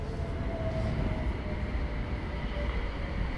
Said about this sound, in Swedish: Men när man står här vid Hamngatan idag så är det här en gata full av trafik. Vi har spårvagnen, 7:an ut till Djurgården.